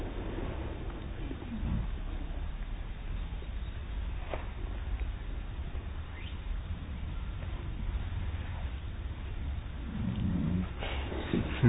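A person snoring with a steady, low, rattling rumble, rising into a few rougher, breathy surges every several seconds. No one speaks.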